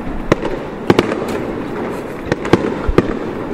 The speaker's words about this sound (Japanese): この花火の音が聞こえるでしょうか。今すごい大輪のね、花火が打ち上がっております。